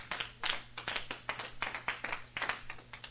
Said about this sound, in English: Give God a big hand clap.